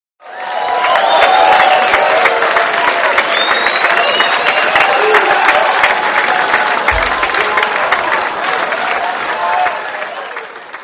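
A crowd bursts into sustained applause with cheering and whoops mixed in, loud and steady for about ten seconds before easing slightly at the end. It is a round of applause for Microsoft Sam, celebrating the return to Windows XP.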